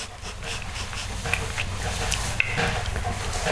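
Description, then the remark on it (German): A dog whimpers and pants, with steady rustling and a couple of sharp taps as it shifts and moves around, hitting a person with its tail. “Alter, der schlägt mich, der Hund. Mit dem Schwanz.”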